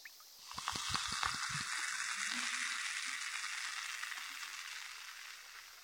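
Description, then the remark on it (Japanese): A cotton swab soaked in carbonated water fizzes, a steady crackling hiss of tiny popping bubbles that follows a few soft handling bumps at the start and fades slightly toward the end. “炭酸綿棒にしてみましょうか。パチパチして音も感触も気持ちいいんじゃないかな。”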